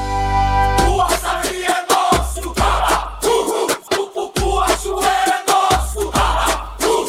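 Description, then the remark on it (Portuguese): A short sustained tone opens, then a big crowd of sports fans roars and chants in loud surges, shouting together in repeated bursts separated by brief breaths of quiet. “Ouviu o grito da torcida?”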